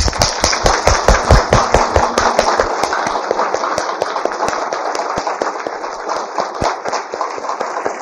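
A long string of firecrackers goes off, a rapid, uneven volley of loud sharp bangs and crackles that keeps popping without a break.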